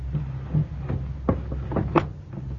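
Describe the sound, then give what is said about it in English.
A door bolt is slid shut in a house: a few sharp clacks and scrapes, the loudest two about a second apart, over a steady low hum with no one speaking. “Go bolt the door.”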